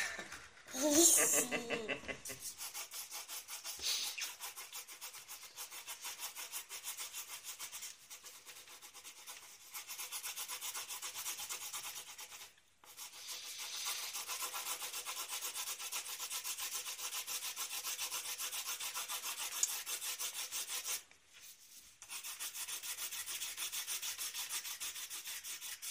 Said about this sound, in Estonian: Meil on lõhtajas joonistamine, joonistamise tund, siis õpetajad, et ma tahan ainult kuulda pliiatsite sahistamist. Praegu on väga palju pliiatsi sahistamist.